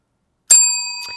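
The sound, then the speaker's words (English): A single bright bell is struck once on The Film Show on Sheffield Live radio to mark sad news of the passing of screen greats; it rings on with a clear, sustained metallic tone that slowly fades, with a faint second tap near the end. “Get the bell ready.”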